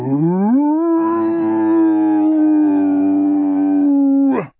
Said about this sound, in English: The word turned into a long, liquid howl.